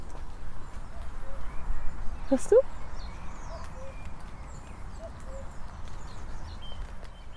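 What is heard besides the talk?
cuckoo calling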